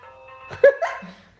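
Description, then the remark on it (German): A landline telephone rings with a call from a friend, left ringing a long time, a steady electronic tone that swells into a brief louder burst before fading out, with no voices over it. “Hast aber lang klingeln lassen, du.”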